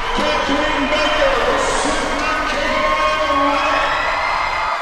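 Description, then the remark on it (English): A large crowd at an indoor swim meet pool roars and cheers continuously, a dense wall of shouting voices with scattered whoops rising above it, loud and sustained throughout. “That roar you heard from the crowd was one of the loudest moments last night.”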